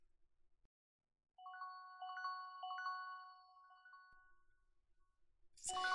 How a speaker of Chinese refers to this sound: 这个时候谁会来电话？